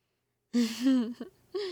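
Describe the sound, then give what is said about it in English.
A sharp, voiced gasp, starting suddenly and trailing off, followed by a quick catch of breath and a second shorter gasp. “That gasp drew more than a few glances, hon.”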